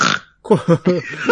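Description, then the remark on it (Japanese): A brief, loud nasal snort like a pig's grunt bursts out, followed after a short pause by a run of choppy voiced sounds from a person. “豚がおるけど。”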